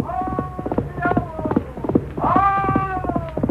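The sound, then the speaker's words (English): Rapid, steady hoofbeats of galloping horses, Silver chasing the great black stallion El Diablo over the prairie, pound throughout, with long wavering tonal cries rising over the drumming rhythm. “pointing Silver's head toward the distant rider, whose black cape streamed back from his shoulders as his great black stallion fled over the prairie”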